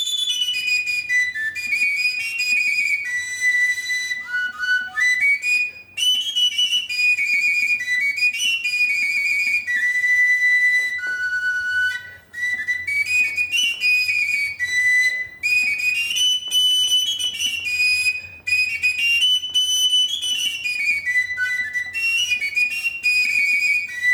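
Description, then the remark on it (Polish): A shrill, high-pitched shepherd's pipe with a short end that gives a very high tone plays a lively Carpathian shepherd folk melody from Polish border regions, with quick ornamented runs and trills. It carries on steadily for about twenty seconds, with only brief breaths between phrases and no voices. “To jest krótki końcówka, która daje strasznie wysoki ton.”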